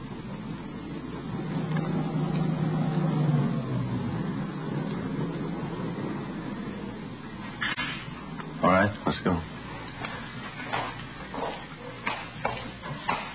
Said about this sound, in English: When it got close enough, we saw it was a dark-colored late-model sedan. It fitted the description of the abductor's car perfectly. It swung off the dirt road and pulled to a stop near the shack.